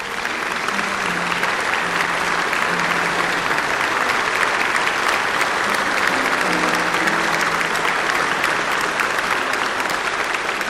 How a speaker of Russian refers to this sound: Гершвин играл на фортепиано неподражаемо. Отзвучали последние звуки «Рапсодии». Зал захлебнулся бурей оваций.